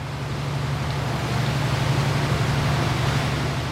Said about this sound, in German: Der Diesel läuft auf vollen Touren, doch die Strömung wird jetzt immer stärker. Es ist ein schmales Fahrzeug, nur 2,5 Meter breit, aber 30 Meter lang.